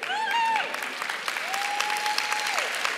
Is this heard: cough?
no